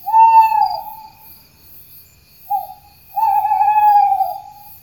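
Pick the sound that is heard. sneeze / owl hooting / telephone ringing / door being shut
owl hooting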